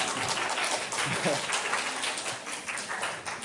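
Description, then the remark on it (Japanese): A room full of people claps briefly, a dense, steady patter of many hands that sounds fairly loud, with a faint voice surfacing in the middle. “下手に拍手すると本気にしますから。”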